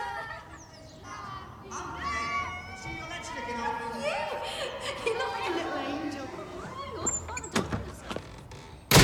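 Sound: front door being shut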